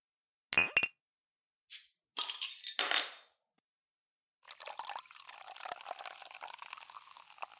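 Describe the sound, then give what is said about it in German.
A couple of bright glass clinks ring out, followed by a few short clattering knocks, then a steady pour of liquid that fizzes and gurgles for several seconds, as a drink is poured for a celebratory toast. “Ein Ereignis, das für meinen Geschmack deutlich zu wenig gefeiert wurde, deswegen hole ich das jetzt nach. Prost!”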